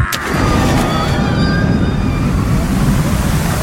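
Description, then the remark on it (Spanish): A sudden, loud splash as politician Lilita Carrió does a bomb jump into a pool, giving way to a sustained roar of churning, sloshing water that stays heavy for several seconds. “No veíamos esta tremenda cantidad de agua desde las inundaciones de abril.”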